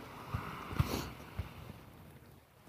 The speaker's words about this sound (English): Here's the other bus.